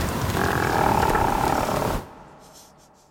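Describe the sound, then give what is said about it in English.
A lion fart sound effect: one loud, rough, rumbling blast lasting about two seconds, with a roar-like growl, then it cuts off abruptly to near silence. No one speaks. “Lion fart.”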